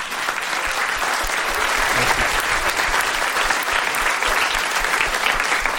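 A steady burst of audience applause, many hands clapping densely and evenly at a loud level for several seconds, with no voices rising above it.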